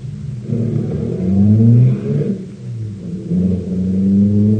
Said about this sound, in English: I'll start the car.